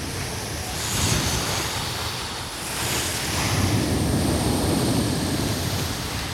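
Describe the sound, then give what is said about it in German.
Waves roll onto a sea shore in broad, steady surges, a constant wash of surf with gusts of wind buffeting the microphone. No voices, just the continuous roar of the sea. “Jetzt entführen wir euch direkt ans Meer.”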